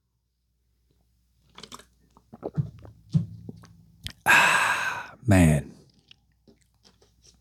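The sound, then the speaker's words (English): A man speaks a word, then comes the wet sound of drinking water: two loud, heavy gulping swallows in quick succession, followed by faint mouth clicks. “I'm late where it's water. So let me do that.”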